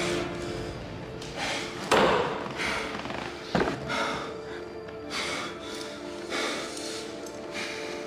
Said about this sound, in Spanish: Se agarra la cabeza con las manos. Tambalea. Le pega a la pared con el codo. Colapsa. Se siente en el suelo respirando agitadamente.